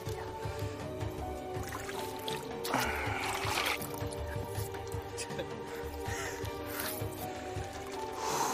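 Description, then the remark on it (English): Water splashes and sloshes in the salty, brown water of the Jordan River on a hot day, with a fuller burst of splashing partway through, while indistinct voices murmur in the background. “So this is the Jordan River.”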